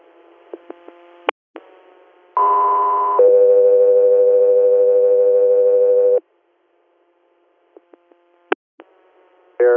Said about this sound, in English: Guthrie Air, stand by for tones.